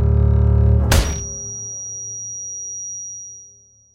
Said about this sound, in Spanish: Le vendaron los ojos y le dieron un golpe seco con la puerta del Seat 131 rojo en el que se lo llevaron.